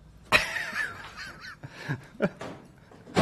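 A door bangs shut and breaks as someone hurries to the toilet, with several sharp, loud thuds spread over a few seconds, a wavering squeak and rattling between the knocks, and no voices.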